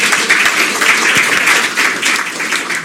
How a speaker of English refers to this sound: Well, you all applauded us for being here, but I'd like to applaud you for being out there. Thank you for coming tonight.